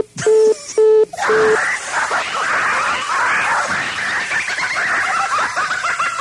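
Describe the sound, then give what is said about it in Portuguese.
Three short, evenly spaced telephone beeps of a busy tone after a phone call is hung up sound at the start, then give way to a continuous rough, noisy bleating-like din. “Ah, ó, essa história de cabeção, eu vou desligar esse telefone agora mesmo, porque cabeção é sua mãe e a sua família.”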